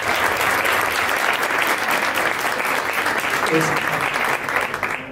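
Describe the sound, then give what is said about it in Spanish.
An audience at JJ Circuito Cultural applauds the event organizers steadily and loudly for about five seconds, a dense crackle of many hands clapping at once, easing off slightly right at the end. “Así que muchas gracias, un aplauso para ellos.”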